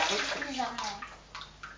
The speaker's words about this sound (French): Alors, le robinet, alors. Arrête le robinet, maintenant. Laisse-le.